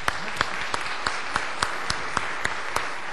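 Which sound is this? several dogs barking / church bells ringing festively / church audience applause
church audience applause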